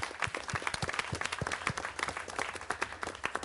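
Audience applause fills the room, a dense run of overlapping claps at steady, moderate volume, with sharper individual claps popping out from the crowd's continuous patter.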